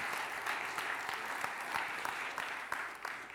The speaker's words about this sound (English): this is only the second time in my life I ever preached in a golf shirt. Is it all right? Applaud if it's okay.